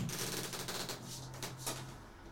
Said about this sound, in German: Ich mach mal die Tür auf vom Balkon.